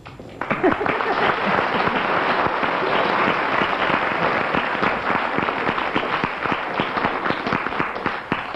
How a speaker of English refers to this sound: Well, I think for that round, we'll ask the audience to decide. If you agree, clap.